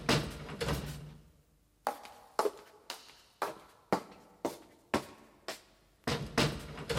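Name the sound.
windows being closed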